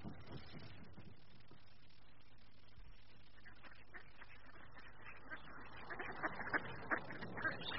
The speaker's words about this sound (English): It always amazes me how the ducks seem perfectly content in their freezing pond water.